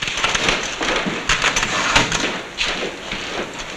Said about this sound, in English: Then, in a trilby, he pounds away at his typewriter.